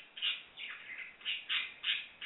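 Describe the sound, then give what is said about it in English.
A pet parakeet, Birdie Bird, in the background of a Skype caller's line chirps and squawks in a rapid series of about six bright, high-pitched calls, moderately loud, with no talking over them. “I'm hearing your parrot back in the parakeet back in the background.”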